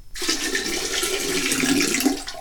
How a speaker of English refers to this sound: He says as he pours out the old water. Uncaps the jug. And pours in the new water.